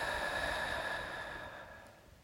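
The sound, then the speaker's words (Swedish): A long, breathy exhale through the mouth after a deep breath in through the nose, during a short breathing meditation, a soft airy rush that starts fairly strong and gradually fades over about two seconds, with no talking. “Och när du andas ut, verkligen pusta ut genom munnen.”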